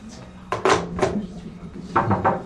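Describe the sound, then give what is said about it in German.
A few knocks on a door, a quick cluster of two or three followed after a pause by two more, moderately loud against a low background hum. “Ich glaube, es hat geklopft.”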